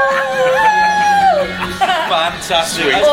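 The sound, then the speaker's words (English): Members of a band howl like wolves together upstairs at the Hope during the Great Escape in May 2009, long sustained wails that slide up and down in pitch and overlap, loud for about three seconds with no talking. “Authentic howling.”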